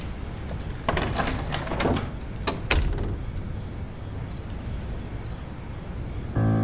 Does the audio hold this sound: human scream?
no